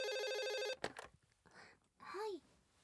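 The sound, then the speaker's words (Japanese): A telephone rings with a bright, steady electronic trill for under a second, then stops abruptly, followed by clattering handling noises and a brief murmur of a voice as it is answered; the call is from the front desk. “電話フロントからですかね。 出ますね。”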